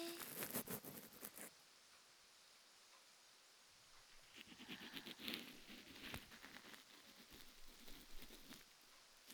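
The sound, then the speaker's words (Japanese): Soft rain pattering steadily in a quiet space, with faint crackly drops; the patter eases briefly in the middle before returning a little stronger. No voices. “雨の音が聞こえますね。”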